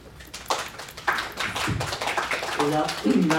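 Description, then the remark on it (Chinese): A crowd breaks into steady applause to welcome a speaker introduced as the founder of a blockchain firm, many hands clapping in a dense, crackling patter that swells after a moment, with a voice starting to speak over it near the end. “我们掌声欢迎他。”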